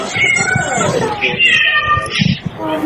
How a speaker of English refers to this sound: I lost my shit twice with that meowing.